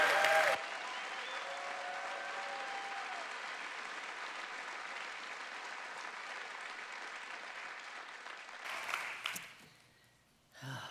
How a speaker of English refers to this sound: So could you give him an encouraging hand clap and a welcome this morning as he comes?